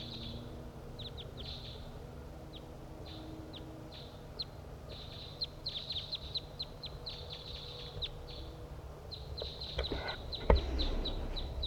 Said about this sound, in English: One, two wild crossbills flying from north to south along the ridgetop, and one has perched in the tree nearby.